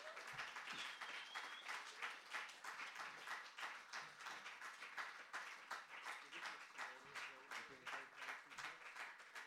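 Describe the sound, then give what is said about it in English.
An audience at a poetry reading applauds steadily for about ten seconds, a dense, bright patter of many hands clapping at an even loudness, with maybe a faint voice or two mixed in. “Can we have some applause”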